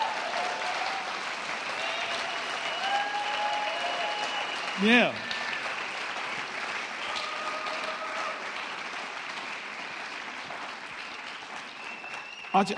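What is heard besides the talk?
audience applause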